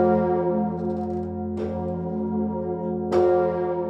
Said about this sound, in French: Ce soir, pour marquer ce triste anniversaire, le Grand Bourdon, l'une des deux grosses cloches de Notre-Dame, sonnera à 20h.